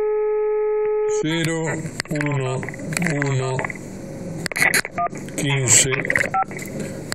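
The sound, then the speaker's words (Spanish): A steady telephone dialing tone sounds clearly for about a second, then gives way to a person talking over the phone line, with a few brief tonal beeps mixed in, as a call is placed on 18 February 2017 to phone numbers given by Dr. Carrió. “Vamos a llamar nuevamente a los teléfonos que nos dio la doctora Carrió.”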